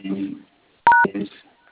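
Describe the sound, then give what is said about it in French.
A single short telephone keypad beep, a bright two-tone DTMF press with a click at either end, made while dialing the code star-1-hash, sounds between stretches of someone talking. “Étoile 1 dièse, ok.”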